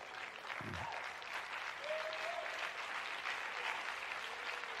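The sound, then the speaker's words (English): An audience claps in a steady, even wash of applause that holds at a constant moderate level for the whole stretch, with a brief murmur of a voice underneath. “I got three claps.”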